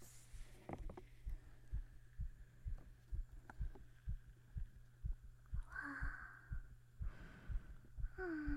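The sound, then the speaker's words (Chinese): A rapid, steady heartbeat, listened to by someone checking a person's heart, thumps with deep, muffled pulses under a low hum, and a voice briefly exclaims partway through. “听听你的心跳了，学徒大人来听你的心跳了。”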